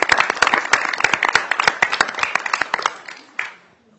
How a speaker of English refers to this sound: Well, thank you all. How about a round of applause for our pages?